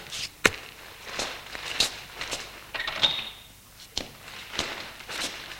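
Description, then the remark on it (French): A sharp latch click as a ground-floor service door opens into a garbage room, followed by a steady series of footsteps as a man walks in, moderately loud, with no voices. “Ouvre porte d'entrée de service qui donne dans le local vide ordure avec son carré. Il entre.”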